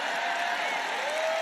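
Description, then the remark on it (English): An audience breaks into steady, dense clapping that stays even for the whole moment, many hands together with no single claps standing out. “Where were the claps on that, for goodness sakes?”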